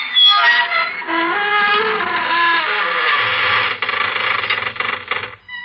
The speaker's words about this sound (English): friends of the creaking door.